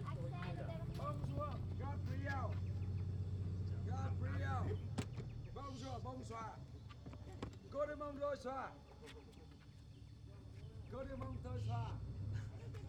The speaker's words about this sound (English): The boat is here. Our only chance to leave this desperate island.